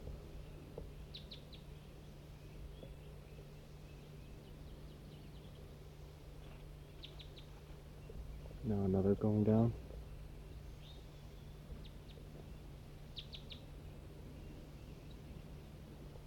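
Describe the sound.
A big flock of wild birds in a tree overhead gives faint, short, high-pitched chirps in scattered clusters over a steady low hum, with a voice speaking briefly partway through.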